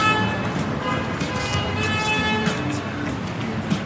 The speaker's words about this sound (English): We leave the traffic noise of central Stockholm behind